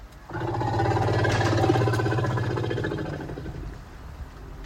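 A deep, resonant rumble call from Frida, an elephant, communicating to another elephant, Donatella, in a recording supplied by Michael Pardo to National Geographic; it rises, holds steady for about three seconds, then fades, loud with rich low harmonics and no talking.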